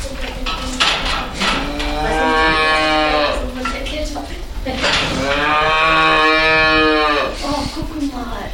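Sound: cattle mooing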